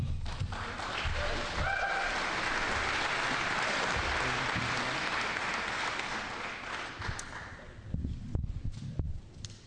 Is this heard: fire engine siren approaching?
no